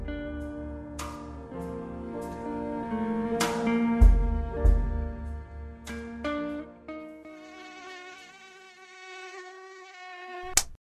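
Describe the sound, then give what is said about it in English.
A mosquito whines with a thin, continuous buzz whose pitch wavers and rises, punctuated by a few sharp taps and ending with an abrupt click. “Mosquitoes and similar pests are a major source of concern around the world, especially marshy areas like eastern North Carolina.”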